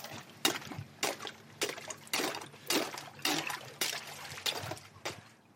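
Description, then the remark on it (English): Ice on a freezing pond being broken and freezing water scooped up into a cup to collect algae, heard as about eight sharp crunching, splashing bursts in an uneven rhythm over a steady watery trickle, with no talking. “But first thing we've got to do here is actually break the ice. That is how cold it is.”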